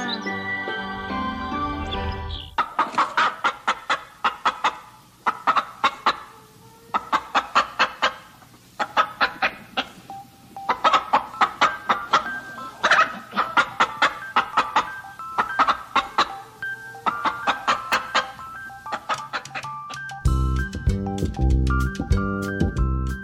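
Chickens cluck in quick, repeated bursts over a steady low hum, framed by short musical jingle-like tones at the start and end.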